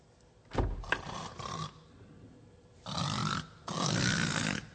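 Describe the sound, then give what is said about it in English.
A voice imitates loud snoring: a sharp nasal snort, then two long, rasping inhaled snores with breathy pauses between them, exaggerated, with no words spoken. “That's snoring, by the way.”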